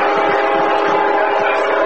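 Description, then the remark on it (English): A CSX freight train roars past a football field about 30 yards away, a loud, steady rumble and clatter filling the whole clip with a sustained horn-like drone on top. “As a CSX flies through Booster Field, sounds like it's running right down the middle of the gridiron.”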